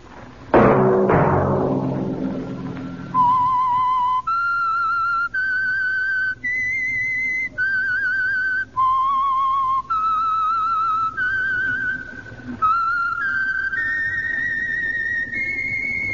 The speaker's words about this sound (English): Whistle be your signal for the Signal Oil program, The Whistler, each Sunday night at this same time.